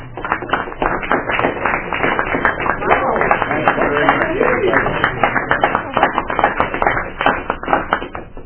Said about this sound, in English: We have several people leaving the UA this term, and want to commend them and say thank you for all your service. Would you please stand so we can give you a round of applause?